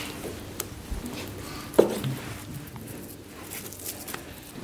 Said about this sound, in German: aus den Schweinebacken das fette Fleisch für die Bratwurst rausgeschnitten. In dem Vorgang hören wir hier.